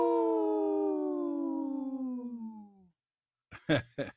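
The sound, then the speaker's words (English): A single long wolf howl, steady and loud, gradually sliding lower in pitch and fading out over about three seconds, followed after a pause by a few short vocal bursts. “In this portion of the show, we'd like to bring awareness to our Minnesota wolf population.”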